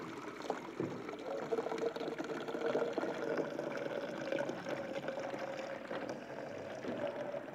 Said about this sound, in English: So whilst you're doing that, I'm going to use my special jug here and put some water in.